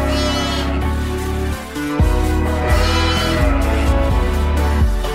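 Sheep bleat loudly, a continuous run of wavering, nasal cries that shift pitch several times over about five seconds, with no one talking.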